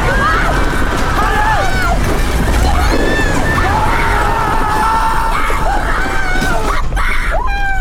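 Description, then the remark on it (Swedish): A panicked crowd rises and flees as a mass of snow comes rushing down the mountain, many voices screaming and shouting in loud, frantic overlapping cries over a constant roar of commotion that keeps going for the whole stretch. “Folk reser sig. Pappa! Och flyr i panik.”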